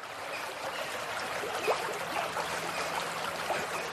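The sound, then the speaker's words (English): Steady rushing river water after rain fills the scene, with a few soft splashes and sloshes scattered through it as a man wades knee-deep across the river. No voices are heard. “Mark decided it would be safer to walk across the river. Even after all the rain, it only reached his knees.”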